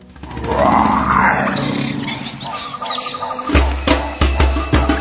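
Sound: lion roaring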